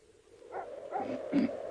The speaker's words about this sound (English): You hear that blooming dog? Something must have disturbed him.